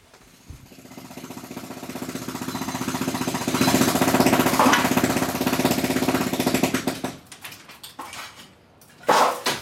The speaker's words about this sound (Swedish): som med borrhammare och slagborr förstör taket till sitt eget hus.